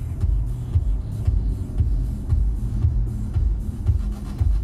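Steady low-frequency rumble of road noise inside a moving car, a continuous droning hum with slight fluctuations and no voices.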